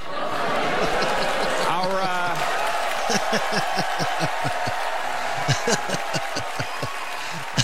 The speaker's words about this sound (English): Nicely done, Conan. A lot of applause. A lot of applause.